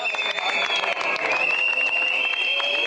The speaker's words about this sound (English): People whistling, people booing, warmonger shouting him down.